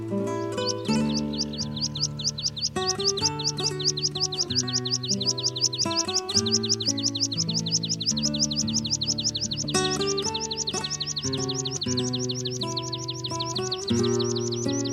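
A meadow pipit's song of rapid, thin high-pitched chirps repeats steadily for the whole stretch, fairly loud, layered over sustained, slowly shifting musical tones underneath.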